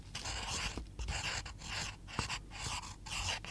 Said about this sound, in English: What shall I draw with the red pencil? Draw a red flower.